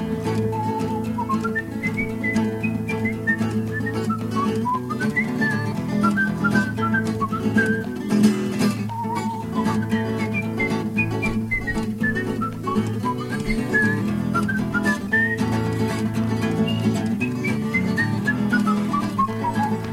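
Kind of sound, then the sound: human body sound, human whistling a tune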